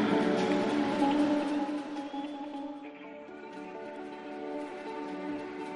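An audience applauds in a dense, steady wash of clapping, loudest over the first two seconds and then easing slightly, while sustained musical tones ring underneath, welcoming an international artist from Senegal on stage at the opening of the Basketball Africa League's second season in Dakar, Senegal.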